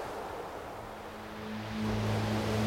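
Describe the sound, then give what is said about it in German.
Gentle ocean waves of warm, clear water wash steadily against the shore in glittering sunlight, in a soft, continuous hiss, with a faint low hum underneath that swells slightly toward the end. “Und das Sonnenlicht glitzert und scheint in den Wellen.”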